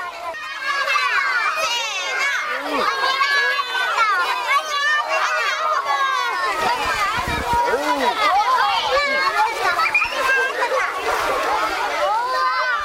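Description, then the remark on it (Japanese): Many children shriek and shout excitedly as they run around outdoors at a kindergarten bean-throwing (mamemaki) event, chased by the principal dressed as an oni demon, a dense, continuous chorus of high-pitched cries and overlapping voices for the whole stretch. “園長先生も鬼になって子どもたちを追いかけます。”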